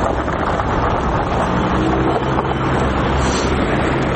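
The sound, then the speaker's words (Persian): Ice crackling and crunching under passing car tires on frozen city roads in Kabul, Afghanistan, on a sunny morning after two days of snowfall, a loud, steady, gritty rumble of road noise with no clear breaks, and no voices. “با عبور موترها از جاده ها صدای شکستن یخ ها گوش های آبیران را نوازش میکند، اما این جاده های یخی برای رانندگان مشکل زا شده است.”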